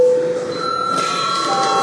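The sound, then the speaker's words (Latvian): A parliament bell rings to call a break and deputy registration, in one steady, continuous electric tone, loud and unbroken for a couple of seconds against a faint background murmur of the chamber. “Godātie kolēģi, laiks pārtraukumam, lūdzu zvanu, lūdzu deputātu reģistrācijas režīmu.”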